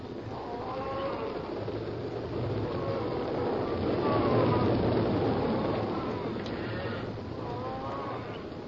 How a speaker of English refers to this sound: The muffled thud of cattle on the move. There was the clack of horns and the bawling of the steers. But these sounds were swallowed quickly in the rhythmic thunder of many hooves that were like vague drum beats in the night.